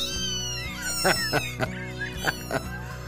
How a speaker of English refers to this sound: Kittens? Yeah, there's the kittens. Oh, my goodness. National Kitten Day.